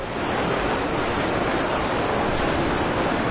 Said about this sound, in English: I see we are getting tired. We can't go very far. The rain is making sure of that.